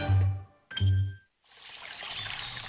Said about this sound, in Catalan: Així sona una bona hidratació. Així sona l'aigua del Parc Natural del Montseny.